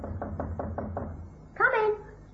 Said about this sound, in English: It was at 7 o'clock that night that I knocked on her apartment door.